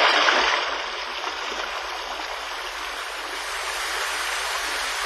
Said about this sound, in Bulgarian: Хайде, хвърли се в потока, той ще те успокои.